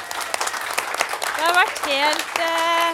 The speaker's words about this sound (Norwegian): tusen hjertelig takk til dere I salen. En applaus til dere.